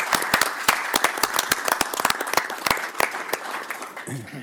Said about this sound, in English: I think a round of applause, even if they're not here. Absolutely. I think it's in order, so.